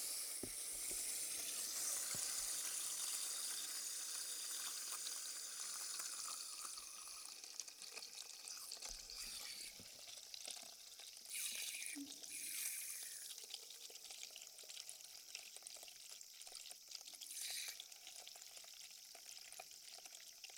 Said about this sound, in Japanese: まずは栓をして、シャンプー台に水をためます。少々お待ちくださいね。